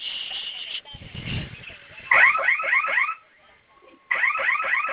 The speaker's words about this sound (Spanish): Esa alarma que está sonando ahorita se va a silenciar en unos minutos.